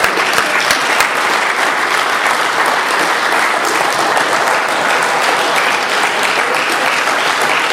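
A large audience stands and claps steadily for the USA for several seconds, a dense, loud wash of many hands applauding together without pause, full.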